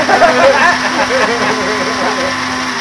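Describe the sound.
A steady engine drone from a new engine being tried out hums continuously at moderate loudness, with a constant low tone underneath, while indistinct voices murmur over it throughout.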